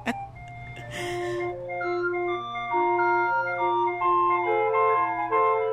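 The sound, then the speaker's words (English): An ice cream truck jingle of 10 notes plays through a tinny little megaphone on the front of the truck, a bright, steady melody of clear electronic notes over a low engine hum, loud. The truck is a former bakery mail truck painted white with neon-colored circles. “a mail truck from a bakery, and it was brown, and we stripped it down and painted it white, and I just made circles on it, different neon-colored circles, and had a little megaphone on the front of the truck and pushed the button and played 10 notes.”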